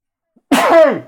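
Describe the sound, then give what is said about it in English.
A single sharp sneeze bursts out of silence, loud, with a brief voiced tail that trails off. No talking. “bless you.”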